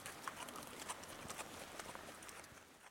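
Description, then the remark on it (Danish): Horse hooves clip-clop at a steady walking pace as a horse is ridden on Samsø, a series of crisp knocks over a constant background hiss with no voices. “og så kan I finde ud af, hvordan at I også kan komme til at prøve at ride en hest her på Samsø.”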